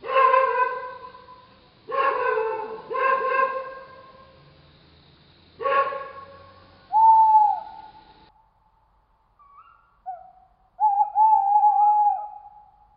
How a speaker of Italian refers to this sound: l'abbaiare lugubre di un cane si alzò da lontano, Un gufo rispose con il suo tono sepolcrale.